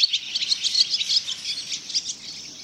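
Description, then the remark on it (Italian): Shrill, high-pitched screeching of swifts flying over salt pans in the evening air, many overlapping calls forming a steady, buzzing chorus that flickers in intensity throughout, with no voices present. “Grumi sfreccianti aerei lungo sentieri eterei, circoli, evoluzioni tracciati dai rondoni.”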